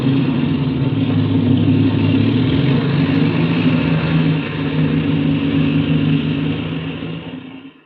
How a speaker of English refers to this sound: All right, fasten your belt, Patsy. I'm going to warm up the engine as we taxi out.